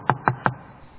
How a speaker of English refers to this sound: I was home about a half hour, getting ready to go to bed, and a knock came on my door.